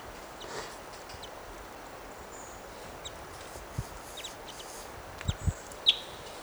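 birds fighting

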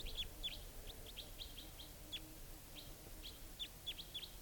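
wild birds calling

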